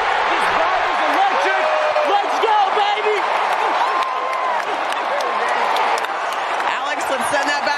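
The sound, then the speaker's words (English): A large baseball stadium crowd, many of them Atlanta Braves fans, roars and cheers continuously, a dense wall of many voices with scattered shouts rising above it, steady and loud throughout, as Sean Murphy hits a home run and Atlanta takes a 2-1 lead over the Rays. “The vibe may be electric, but a lot of the Braves fans are the ones doing the cheering right now.”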